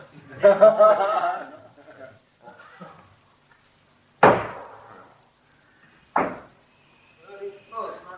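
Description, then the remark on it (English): Two loud, sharp knocks on a locked door, spaced about two seconds apart, each with a short ringing decay. People talk before and after the knocks. “It's locked. Are to aise kar do? I knocked. Knocked.”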